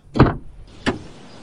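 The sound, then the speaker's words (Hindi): A car door opens with a broad mechanical clunk as the driver gets out on a cold night after braking because the front tyre went flat near an old cemetery, followed about half a second later by a second, sharper thud, with no voices. “मैंने जल्दी से ब्रेक लगाई और हिम्मत करके गाड़ी से उतरा।”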